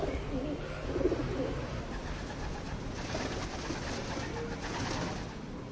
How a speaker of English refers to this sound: Pigeons roost peacefully on the buttresses of St. Bartholomew's Cathedral, near Kolín's pretty main square.